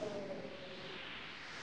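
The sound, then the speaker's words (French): Steady wind rushes past in a continuous, fairly loud whoosh, with a faint whistling tone fading out early on and no voices. “Oh, ce vent!”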